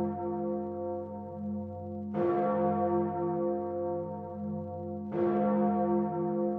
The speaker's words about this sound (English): Oh no, it's those awful Judgment Day bells again here in Cue It Up.